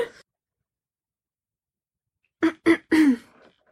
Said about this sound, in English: Just every time before your part, you go and clear your throat. Because I'm always scared I have, like, a sore throat.